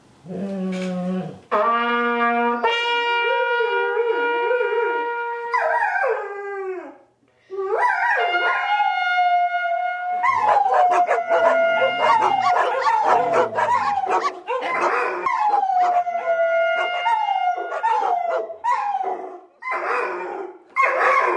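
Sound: dogs howling together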